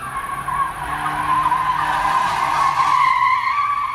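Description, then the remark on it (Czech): A car drifts on a nearly empty parking lot after midnight with a long, sustained tire screech, the squeal wavering in pitch over a steady engine drone, loud, with no voices. “Pak jedno auto na už skoro prázdném parkovišti začalo driftovat.”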